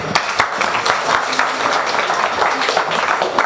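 A crowd applauds a sports activity leader as the entertainment staff are introduced, many hands clapping in a dense, continuous patter that stays fairly loud and even throughout, with no voices standing out.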